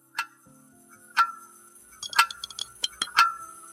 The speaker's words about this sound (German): Stille. Nur die Uhr.